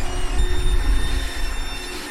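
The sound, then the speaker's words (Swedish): Brushes of a boat wash machine at the end of pier 1 in Trollbäckens båtsällskap's marina slide slowly downward from the bow, one slightly tilted brush on each side following the hull, with a steady, heavy low rumble and a faint high mechanical whine. No one speaks. “Och sen glider de sakta ner. Det är en borste på varje sida.”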